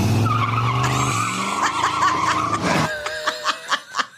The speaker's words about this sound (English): That's the sound of him crashing into. It's the sound of him crashing into a slide where many children are playing because he decided he's going to screech my wheels in the middle of, you know, the north side of Chicago.